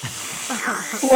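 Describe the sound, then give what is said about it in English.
A voice imitates the Baron noisily slurping his soup: breathy, hissing sucking sounds that rise in loudness, ending in a brief voiced, tonal squeak. “The Baron is slurping his soup rather noisily”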